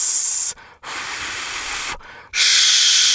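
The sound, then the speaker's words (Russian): A voice does a breathing exercise, making three steady, loud "sh" hisses as long, even exhales, the first short, the middle and last longer, each separated by a brief silent pause for breath. “В этом упражнении, если вам не хватает дыхания, можно брать его, например, перед последним звуком «ш».”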